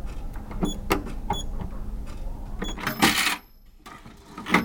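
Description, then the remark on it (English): A cash register on a school coffee and snack cart in use as a student serves teachers, takes money and gives back change: a run of clicking key presses with short electronic chirps, then a burst of rattling as the drawer slides open, followed by a brief lull and a final clunk. “He takes the cart around, serves the teachers, puts money in the cash register, and counts and gives back change.”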